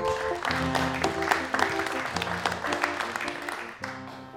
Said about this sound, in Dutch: Dus een applaus voor Babs Gons.